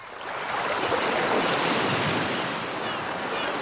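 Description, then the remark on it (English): Ocean waves wash steadily onto a beach in a continuous, broad roar of surf, fairly loud, with a slight breezy hiss and no voices. “Et je me retrouve sur la plage à fêter les anniversaires du monde de la guitare.”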